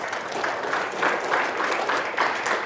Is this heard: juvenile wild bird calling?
no